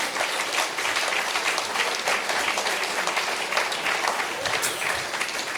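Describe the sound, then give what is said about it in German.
Steady audience applause for Mr. Kuhlenkampf in his absence, a dense wash of many hands clapping at an even, sustained level for several seconds, with no voices standing out. “Ein Applaus für ihn in Abwesenheit.”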